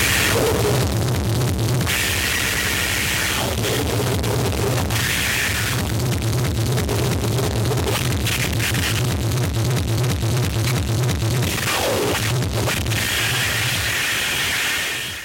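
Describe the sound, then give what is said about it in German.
Harsh Japanese noise music: a dense, loud wall of distorted static and roaring noise with abrupt stuttering cuts and bursts, unrelenting throughout, no voices. “lassen Sie uns doch kurz in einen der bekanntesten Tracks von … reinhören. Der heißt ….”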